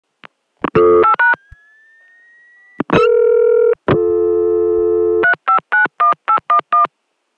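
Quick bursts of touch-tone beeps dial a number, then a rising whistle and a steady dial tone hum, followed by another fast run of about eight keypad tones. Close and clear, no voices.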